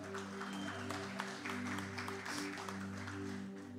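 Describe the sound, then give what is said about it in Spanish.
An audience at a church service claps together in a steady, dense round of applause lasting several seconds for those who brought a physical Bible, with a sustained low musical drone humming beneath it and no one speaking. “Démosle un aplauso a los de Biblia física.”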